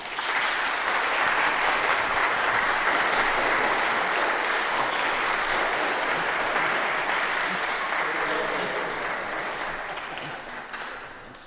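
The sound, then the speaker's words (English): An audience claps to give thanks for newly installed church council members, in a dense, sustained wash of applause that holds strong for most of the stretch, then gradually thins and fades toward the end. “Let us give God thanks for these leaders with applause.”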